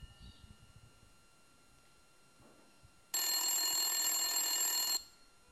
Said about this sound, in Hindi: और उसी समय उनके घर के फोन की घंटी बजती है। मैं देखती हूँ।